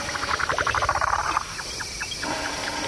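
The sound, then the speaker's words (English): Insects chirp at night in the grassland of the Maasai Mara Plain in Kenya, near Mount Kilimanjaro. A dense, rapid pulsing chorus drops after a moment to sparser, softer chirps over a steady background hiss. “quietly recorded a family of elephants that had bedded down in the rough grassland for the long African night.”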